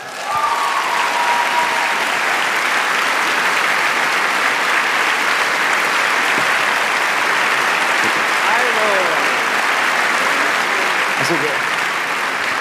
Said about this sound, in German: Und ich würde sagen, wir begrüßen sie jetzt einfach, oder? Ja. Sollen wir loslegen schon? Ja. Alles klar, einen riesen Applaus bitte für Paulina Kaser von Mordlust.